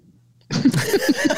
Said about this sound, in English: Oh, it's like a deep yawn. Just a very deep yawn.